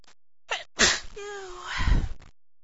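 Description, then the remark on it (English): A single loud sneeze: a quick sharp inhale, then an explosive voiced burst that trails off with a breathy finish, and no talking around it. “I just keep sneezing.”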